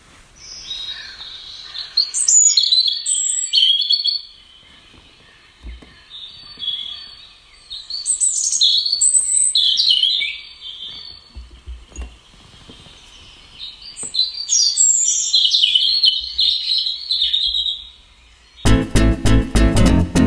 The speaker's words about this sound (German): nicht etwas blechern klingen, weil die Geräusche aus dem Handy-Lautsprecher kommen, aber ganz ohne geht's jetzt auch nicht, wenn wir so viel über diesen einen Vogel gesprochen haben. Lauschen wir doch mal kurz dem Gesang des Rotkehlchens.